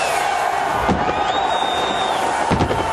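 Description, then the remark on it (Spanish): Fireworks rockets and firecrackers at the end of the Valencia motorcycle Grand Prix pop in a couple of sharp bursts over a steady roar of crowd noise, with a thin whistling tone rising and holding between the bangs. “Los cohetes y las tracas ambientan el final de este gran premio.”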